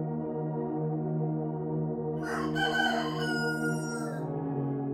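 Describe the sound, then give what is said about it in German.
A rooster crows once through the alleys, a long drawn-out call rising and holding for a couple of seconds over a steady low hum, clear, with no one talking. “Das Krähen des Rotkamms schallt beharrlich durch die Gassen.”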